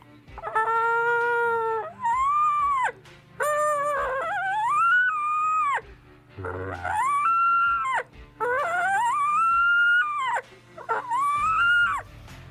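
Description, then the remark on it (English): A hand-blown reed predator mouth call, blown at low pressure, sounds in a series of wavering, tonal wails that bend and rise in pitch, fairly loud, resembling a whining, howling dog. “If you've trimmed the tape perfectly, you have no air escaping out of the sides and all your air is focused right down the center of the call. So let's try that again. Low pressure. Watch my jaw move and you'll hear it go up.”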